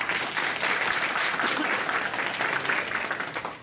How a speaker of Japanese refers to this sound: それをあのお二人方2人ともやっていただいたんで、本当に今回またいいセッションができたかなと思います。あの2人にあのまた拍手をいただけたらなと思います。